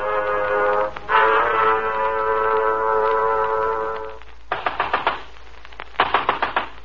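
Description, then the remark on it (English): Two quick bursts of loud knocking on a door, about five sharp raps each with a short pause between, follow a sustained, droning musical chord. No one speaks. “Okay, I'm coming. Open up, open up. Hello, come on, open up. Next time, why not bring along an axe?”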